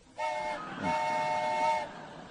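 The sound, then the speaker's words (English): A steam train whistle sound effect blows twice, a short blast followed by a longer sustained one, its layered tones ringing loud with a faint rumble beneath. “It gives our sound effects guy an excuse to be what it feels like to be a whistleblower.”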